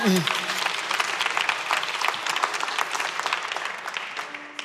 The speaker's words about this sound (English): Ultimately, you can clap for the Lord.